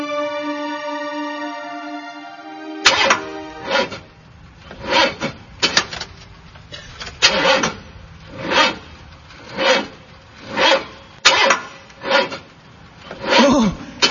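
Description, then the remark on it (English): A car engine cranks over and over without catching, a rhythmic rasping grind roughly once a second, fairly loud, after a brief steady humming tone at the start. “Starting. Starting problems.”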